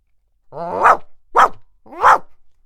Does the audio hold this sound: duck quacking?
no